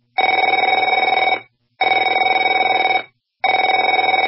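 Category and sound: household object, telephone ringing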